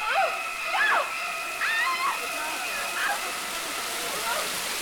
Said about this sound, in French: Oh, une rivière.